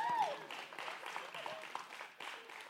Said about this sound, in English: Everybody give the people behind the scenes a round of applause.